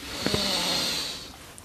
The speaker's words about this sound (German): Wir nehmen jetzt zusammen einen tiefen Atemzug und atmen ein.